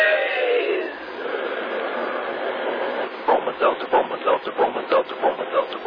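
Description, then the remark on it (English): A train sound effect: a broad hissing rush of steam at first, then steady rhythmic chugging puffs that build in regular beats, loud, with a faint voice-like quality. “But when it comes to common sick headaches, take a tip from our educated train.”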